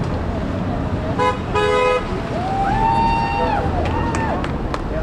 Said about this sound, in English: Honk for a public option. Supporters of a government-run health care plan met on the busy corner of 3rd and La Cienega to let their voices be heard.